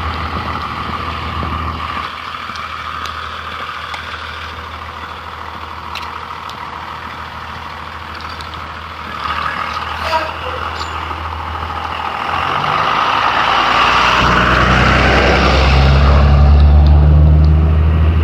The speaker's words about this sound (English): Same bus. Not too surprising, they don't have like multiple buses making these summer runs, I don't believe.